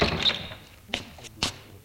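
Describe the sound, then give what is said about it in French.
A woman opens her front door after the doorbell rings: a brief rattle of the latch, then two dull wooden thunks about half a second apart, fairly quiet, with no voices. “Elle ouvre.”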